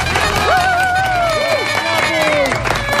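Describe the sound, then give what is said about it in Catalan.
Loud, steady audience applause with dense rapid clapping throughout, topped by a few sliding whoops and cheers that rise and fall over the crowd, welcoming Joel Díaz and Manel Vidal on APM's show Catalunya 2040. “Vinga, va, un fort aplaudiment pel Joel Díaz i el Manel Vidal.”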